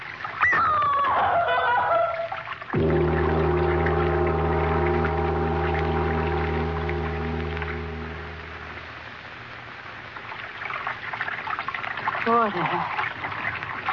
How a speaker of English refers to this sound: That sound. Running water. Over this way. I wonder why.